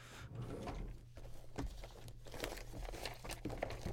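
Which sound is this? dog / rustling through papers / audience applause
rustling through papers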